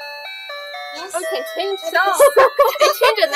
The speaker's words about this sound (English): It's so loud. You really like the music, huh? Does your small house have music too? The doorbell?